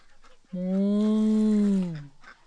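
One drawn-out cow moo, steady and fairly loud, holding for about a second and a half before sliding down in pitch at the end. Quiet background before and after, with no talking.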